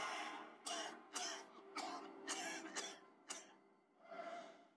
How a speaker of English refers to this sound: They're coughing up a storm.